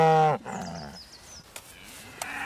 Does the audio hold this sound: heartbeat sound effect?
no